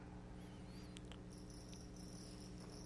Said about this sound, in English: Do we have crickets in the church? That's okay. If they like listening to my sermon, that's okay too.